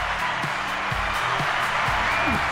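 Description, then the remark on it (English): Steady, dense applause from a crowd fills the whole stretch, a continuous wash of many hands clapping at once, with faint low voices murmuring underneath, welcoming a guest on the radio show Radio Free Peace. “I was just listening to all the applause and really liking it.”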